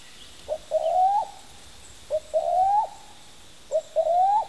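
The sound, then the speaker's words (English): A cuckoo calls three times in a rainforest in a steady rhythm, each call a short note followed by a longer hooting one, fairly clear against a soft background hiss with no one talking. “Listen, our cuckoo friend is back to say hello.”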